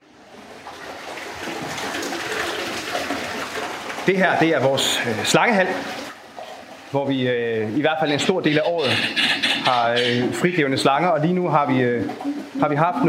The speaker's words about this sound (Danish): Så dem, I kan høre skrabbe her i baggrunden, det er altså et par trompeterfugle.